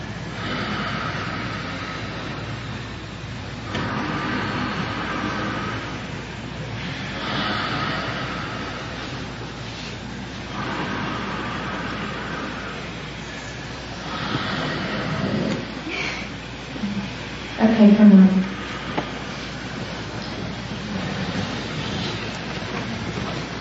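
Slow, steady breathing: soft, airy breaths swell and fade in a regular rhythm every few seconds, with a brief louder breath near the end. No one speaks.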